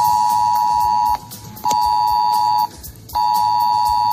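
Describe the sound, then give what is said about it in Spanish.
A loud phone emergency alert blares in three long, steady buzzing tones, each about a second long with short gaps between, harsh, as phones go off across the tables of a restaurant in Spain, over a background hum. “un zumbido que pasa, miradas entre las mesas, el mío también, los camareros, la gente, y claro, el acongoje.”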